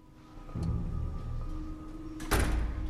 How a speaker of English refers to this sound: Reluctantly, Audrey leaves the holding room and closes the security door firmly behind her.